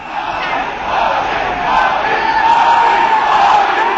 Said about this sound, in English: Narendra Modi with the BJP on his way in. Here's supporters cheering his name at a victory rally today.